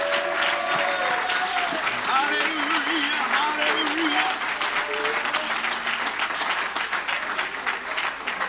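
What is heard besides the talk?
audience applauding in church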